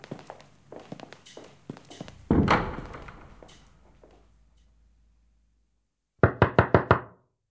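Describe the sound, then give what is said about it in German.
Footsteps and a heavy thud, then after a pause a quick burst of five loud, sharp knocks on a door, with no one speaking. “aufmachen! Wir haben ein paar Fragen und ich tritt hier die Tür ein.”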